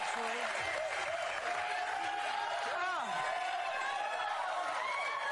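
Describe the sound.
A studio audience on the TV show The View applauds and cheers loudly and steadily, a dense wash of clapping with whoops and shouted voices rising and falling through it.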